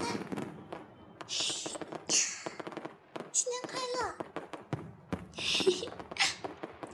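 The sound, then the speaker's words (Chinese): Purple fireworks crackle and pop during a New Year celebration in a rapid, irregular string of sharp bursts that keeps going throughout, with children's excited voices rising over the noise. “啊！放烟花了！放烟花了！”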